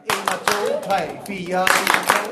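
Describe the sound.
Children at a summer camp in Denmark clap a quick, rhythmic percussion pattern like the group Stomp, sharp hand claps repeating, with young voices calling and chattering over the beat.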